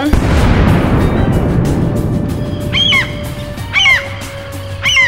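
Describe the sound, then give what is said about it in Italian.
A deep, rumbling cannon blast from an anti-paparazzi kit fills the opening second, then fades as three loud, harsh seagull squawks ring out, spaced about a second apart near the end. “Da oggi finalmente il kit antipaparazzo, mai più foto scomode ed inopportune, completo di cannoni, sparapesci, attiragabbiani. Fuoco!”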